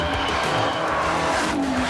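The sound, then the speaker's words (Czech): A 1949 CIS Italia racing car with a supercharged 12-cylinder engine roars loudly and steadily, with a sharp tire squeal sliding across near the end, intense, no voices. “CIS Italia baut einen Rennwagen mit 12-Zylinder-Motor und Kompressor.”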